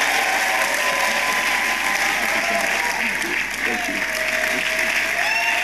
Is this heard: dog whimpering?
no